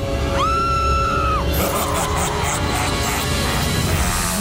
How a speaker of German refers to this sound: Seit einer Stunde schon kreischt die Motorsäge im Garten